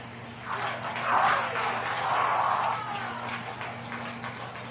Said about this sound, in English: You can hear people clapping. Why they're clapping, I have no idea. Like, that's, he just started the dangerous part.